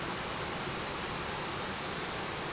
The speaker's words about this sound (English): As you draw near, you hear the cascade of water flowing on the rocks.